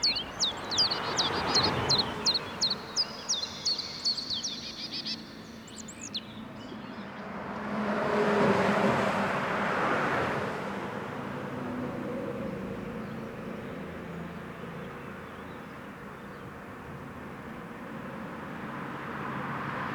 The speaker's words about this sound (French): Là, donc déjà autour de nous, qu'est-ce qu'on a comme manifestation sonore? On a la route, on disait, les oiseaux.